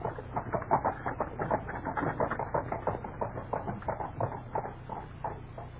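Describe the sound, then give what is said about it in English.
Steady, rapid clip-clopping of the hooves of horses pulling a coachman-driven carriage, a continuous rhythmic patter over a low rumbling drone, moderately loud, with no voices. “Only tell that false coachman to whip the horses up.”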